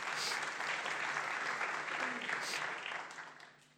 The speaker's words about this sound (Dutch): Ja, ik mag klappen over de Heer.